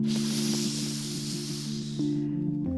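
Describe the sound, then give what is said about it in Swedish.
A long, steady hissing breath drawn in through the teeth in chitkari yoga breathing, with the tongue pressed against the back of the teeth and air taken in at the corners of the mouth. It lasts about two and a half seconds, then tapers off, with a low sustained tonal drone underneath. “Och om du inte kan göra det här lilla röret så kan man pressa tungan mot baksidan av tänderna. Då heter det chitkari och då andas man på sidorna av mungipen.”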